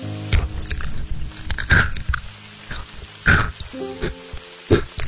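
Crunching and chewing of a hard homemade chocolate toffee made of butter, brown sugar and chocolate, with several loud, sharp crunches at irregular intervals between softer, wet chewing sounds, and no talking.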